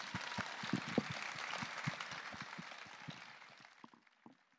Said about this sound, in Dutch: Mag ik dan ook vragen voor een groot applaus voor al onze gasten, voor de gemeente Groningen die het heeft georganiseerd, voor het Forum